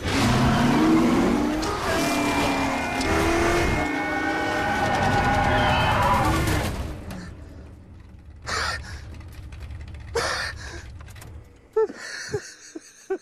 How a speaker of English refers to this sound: You cast Tracy Letts as Henry Ford II, and there's a scene that I will just say where Henry Ford II is in a car going very fast.